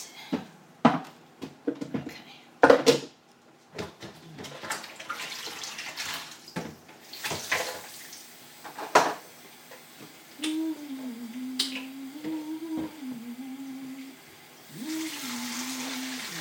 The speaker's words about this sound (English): Just gonna wash up the steamer. Before I wash it up, I have to empty the water from the bottom of it. Empty the water out.